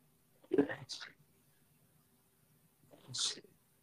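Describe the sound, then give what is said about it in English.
Two muffled sneezes a few seconds apart from a person who moved away from the microphone, each a short sharp burst with a hissy release, fairly quiet, with near silence between them. “I was sneezing.”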